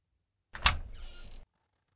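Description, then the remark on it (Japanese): A door opens: a sharp clunk followed by a brief rushing, sliding noise that fades out after under a second. No voices. “扉？こんなところに扉なんてなかったよね。”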